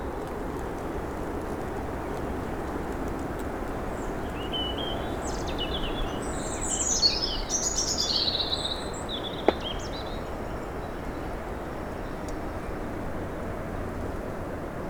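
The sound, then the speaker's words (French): Steady outdoor hiss at 1,400 metres altitude in sunshine, with a few brief, bright bird song phrases rising faintly in the middle, then a single sharp tick shortly after; no one speaks. “Après les neiges et le silence des 1400 mètres d'altitude que nous avons atteint, vous voici paisiblement assis. Quelques rayons de soleil, le chant des oiseaux.”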